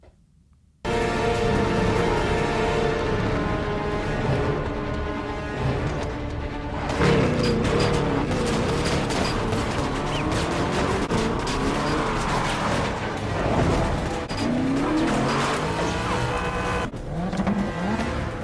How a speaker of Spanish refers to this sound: El caso es que, bueno, al final vemos una persecución de coches en la película. ¿Y qué coche conduce, en este caso, James Bond?